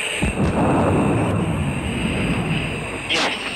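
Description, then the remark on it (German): A sonic boom from a supersonic record car driven at over 1200 km/h through the Nevada desert in 1997: a sharp, deep bang at the start, then a loud, sustained roaring rush of engine noise with another crack near the end. “50 Jahre später, 1997, fuhr der erste Autofahrer mit über 1200 Sachen durch die Wüste Nevada. Natürlich inklusive Knallerei.”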